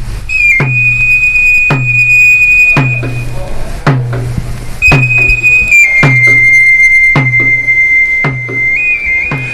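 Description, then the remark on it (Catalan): A shrill fabiol pipe holds long, high, piercing notes over a steady drumbeat that strikes roughly once a second, the pipe sliding between a few pitches, played for the Sant Joan festival in Ciutadella, Menorca; no one speaks. “el que dèiem abans, sense un temor i en Fabiol, les festes no serien el que són”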